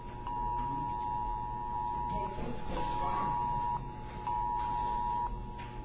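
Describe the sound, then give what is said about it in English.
A phone emergency alert test tone, a second round of a countrywide test, sounds as a steady, shrill electronic drone in long pulses broken by brief gaps, over constant background noise and faint voices. “Oh, we're getting a second round now.”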